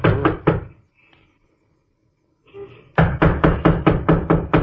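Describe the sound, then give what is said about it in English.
A burst of three firm knocks on a wooden door at 576 Milton Avenue, a quiet pause, then a longer run of about eight loud, evenly spaced raps. No one speaks. “Well, knock on the door anyhow.”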